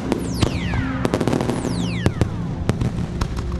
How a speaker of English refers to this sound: a rainbow of 1,000 fireworks that arched over the river like a drawing in the sky.